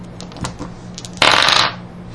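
A shilling coin is put down on the bar at Reaver's Run: a few light taps, then a bright, ringing metallic clatter that lasts about half a second before fading out. No one speaks.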